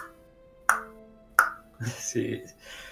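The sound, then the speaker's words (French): Two sharp, ringing metallic taps of a hammer as an old mask maker resumes hammering, evenly spaced about a second apart, followed by a short stretch of a voice speaking. “Et il retape avec son marteau.”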